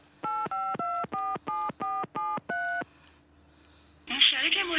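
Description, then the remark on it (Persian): A quick run of eight keypad tones beeps in steady rhythm as a mobile phone number is dialed, each tone short and clear, followed by a burst of noisy sound at the end. “خب موبایلشو بگیر.”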